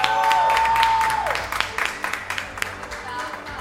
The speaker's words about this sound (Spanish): Un aplauso para él.